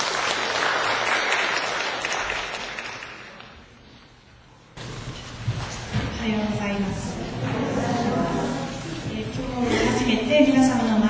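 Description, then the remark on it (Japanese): An audience at a Christian service claps steadily for about four seconds, welcoming a woman up to give her testimony; the applause thins and fades away before a single voice begins speaking over a low background hum. “皆様拍手を持ってお越しくださいませ。”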